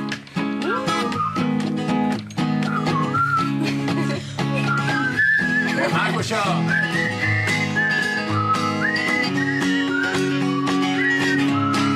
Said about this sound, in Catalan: Tots xiulen i es gronxen, alguns fent petar els dits i d'altres tamborinant les mans a taula.